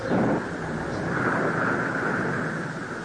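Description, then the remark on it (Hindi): A steady roar of stormy wind on a dark night under a clouded sky fills the whole stretch, with a gusty low rumble up front and a fine hiss of light rain spread across it, no voices. “आकाश में बादल छा गए थे, आंधी चल रही थी और हल्की हल्की वर्षा भी हो रही थी।”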